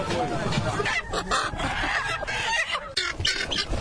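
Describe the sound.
Chickens cluck and squawk amid a crowded, bustling poultry market, the Médine market known as Suguninkura, full of broiler and local chickens, with indistinct voices and steady background commotion filling the scene throughout.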